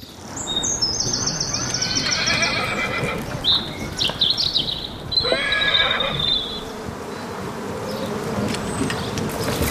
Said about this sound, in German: Die Pferde, sie gehen durch, sie galoppieren einfach davon. Woran rennen und rasen sie denn vorbei, ha?